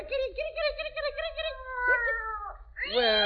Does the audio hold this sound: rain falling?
no